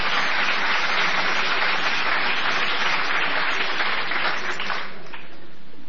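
A crowd applauds in a dense, steady wash of clapping for about five seconds, holding an even loudness before thinning out and fading away at the end.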